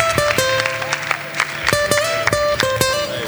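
An audience applauds with irregular, crisp claps over steady tonal music notes, keeping a moderate level for a few seconds with no one speaking.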